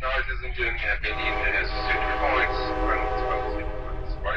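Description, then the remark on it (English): A conductor's voice announces stops over the speaker system of a train from Berlin to Munich, Germany, steady and continuous, above a constant low rumble of the train moving at about 140 miles an hour. “I left Berlin early in the morning with my girlfriend and caught a train to Munich, listening to the train conductor call off the stops.”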